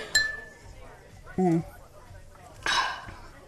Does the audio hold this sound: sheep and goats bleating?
no